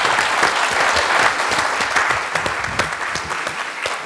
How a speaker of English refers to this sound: So please give a big round of applause to Kate.